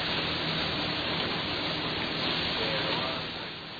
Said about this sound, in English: Inside the truck, Michael, the cook, is frying bacon as fry bread drips over a vat of oil.